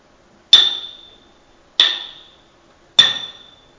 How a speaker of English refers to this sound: And close your eyes with me and imagine what that would have sounded like as that Roman soldier took the hammer, took that spike, and drove it into Jesus' hands and his feet.